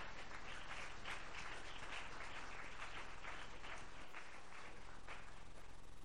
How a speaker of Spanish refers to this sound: Oh, si le aplaude al Señor, apláudale al Señor.